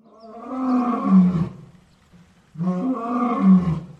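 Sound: big cat roaring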